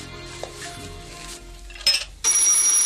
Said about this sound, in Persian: رئیس نظمیه با شنیدن صدای زنگ تلفن به سمت تلفن دیواری می رود و گوشی را بر می دارد.